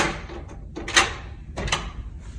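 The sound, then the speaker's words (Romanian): Thieves forcing open with a key the drawer of a desk holding laptops, in a European Parliament office, shown in a video posted on YouTube: rattling and scraping with two sharp metallic jolts about half a second apart, against faint room noise and no voices. “Într-un mesaj video postat pe YouTube, oficialul arată cum hoții au forțat cu o cheie sertarul unui birou în care se aflau laptopurile.”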